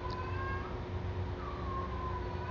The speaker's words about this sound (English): That cat cries funny. Or meows really funny.